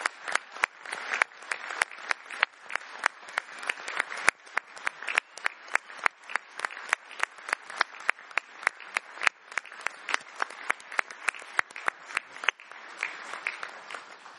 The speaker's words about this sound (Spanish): Quería decir algunas palabras, pero creo que los aplausos del público son muchísimo más importantes y efectivos que lo que pueda decir.